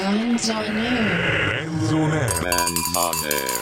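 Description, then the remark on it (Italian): A voice talks during a live radio broadcast from a studio, then a loud jumble of cowbells breaks out, metallic clanks ringing and overlapping rapidly for the last second or so. “non puoi tornare in diretta e cominciare a fare casino con le campane.”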